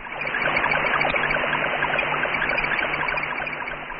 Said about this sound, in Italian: piove davvero questo segnale sull'antenna di Bochum. È l'Explorer 15, un vero e proprio laboratorio scientifico automatico che studiò, tra l'altro, la fascia di radiazioni sviluppata artificialmente il 9 luglio da una esplosione nucleare.